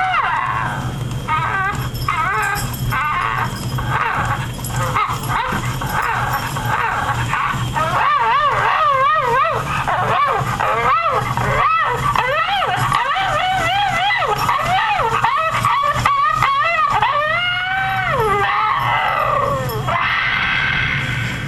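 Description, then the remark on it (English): A novelty humping dog toy running: a steady mechanical buzz under a busy stream of warbling, yelping electronic sounds that rise and fall for about twenty seconds before trailing off. “And he gives off a couple of good humps there for the end.”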